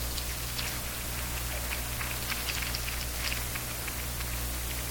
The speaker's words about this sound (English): Isn't he great? Let's clap him again.